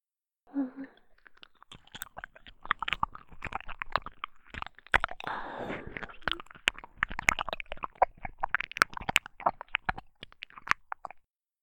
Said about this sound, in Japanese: 耳を舐められるとキスしてる音とは違ってダイレクトに頭が溶かされていく感じがする。